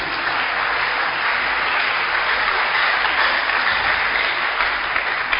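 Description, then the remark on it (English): An audience claps in praise, a dense, steady wash of many hands applauding at an even loudness throughout, with no voices clearly standing out above the clapping. “Can we give God a clap of praise this morning?”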